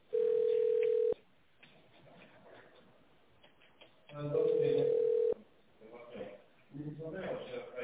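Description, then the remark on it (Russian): A telephone ringback tone while on hold on a call to Medliga, a supplier of professional medical equipment: two loud, steady one-second beeps at a single mid pitch, about four seconds apart, with muffled phone-line voices murmuring in between and afterward. “Если вы знаете внутренний номер сотрудника, наберите его в тоновом режиме или дождитесь ответа администратора.”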